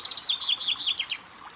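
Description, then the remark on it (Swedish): Birds sing in a quick run of high, bright chirps and warbled notes, clear, fading after about a second against a soft background hush. “Lyssna på fåglarna som sjunger.”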